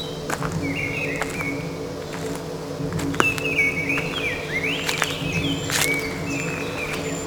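A blackbird whistles its song in short, fluting phrases, heard over a steady low hum and faint insect buzzing, with no voices.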